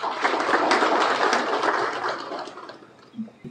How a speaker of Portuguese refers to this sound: membros da sociedade civil, partidos políticos, autoridades tradicionais, técnicos da PGR e demais convidados, a quem também peço uma salva de palmas.